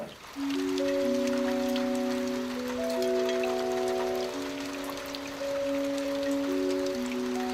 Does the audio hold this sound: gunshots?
no